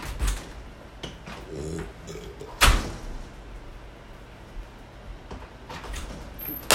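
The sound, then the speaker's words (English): A front door is handled and pulled shut with one sharp thud partway through, surrounded by faint rattles, shuffling and a low hum, with no one talking. “I'm about to go piss out the front door too.”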